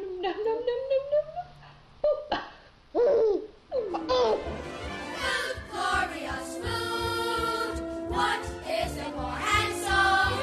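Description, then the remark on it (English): A baby babbles and squeals while eating green beans, in high, rising coos and vocal bursts, with giggly sounds mixed in, while an adult voice talks softly. “You know, people putting baby videos on the internet is one of my favorite things about the 21st century.”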